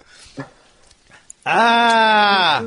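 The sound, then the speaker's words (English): A person lets out a single loud, drawn-out growl lasting about a second, nasal and bleating like a sheep, after a few faint murmurs and clicks. “Yeah, it does sound awfully sheep-like.”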